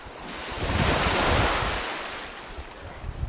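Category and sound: nature, ocean waves breaking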